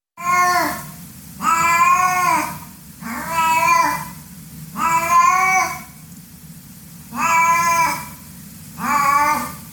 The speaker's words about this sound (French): Je pense que vous l'avez reconnu car il s'agissait du cri du chat domestique